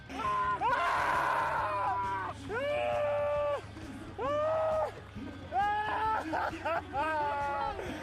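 Cyclist Colbrelli screams and yells ecstatically while rolling on the ground celebrating his Paris-Roubaix race win, held in rain and mud: about five loud, strained cries in quick succession over a low background rumble.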